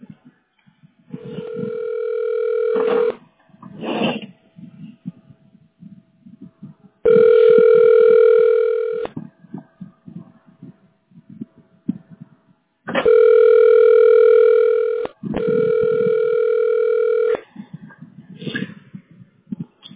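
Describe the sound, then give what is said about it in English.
A buzzy, steady telephone ring tone sounds in long bursts of about two seconds, four in all, separated by pauses of faint line noise, as a caller waits on hold to reach Ranger Electric (Mr. Electric of Phoenix Metro). “Ranger Electric, your call will be answered in the order in which it was received.”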